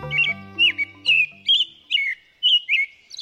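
An American robin sings a steady series of short, clear, whistled phrases separated by brief pauses, bright, with a low sustained musical tone fading out at the start.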